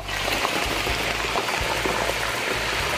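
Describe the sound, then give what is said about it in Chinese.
Pork trotter skin sizzles and bubbles steadily in frying oil at about 140–160 degrees with the heat switched off while its moisture bubbles away, a dense crackle of popping spatters that holds at an even loudness throughout, with no voices. “好，我们稍微等它这个水泡就让它蒸发完以后，我们再来开火，好，这个时候会比较安全，它就比较不会着火。”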